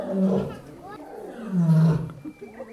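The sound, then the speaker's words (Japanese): A lioness in a neighbouring cage roars in deep, rumbling bursts, one swell early on and a louder, longer one later, with low grunting tails in between and faint background voices. “うわ今隣の檻のメスライオンが吠えてますよ。”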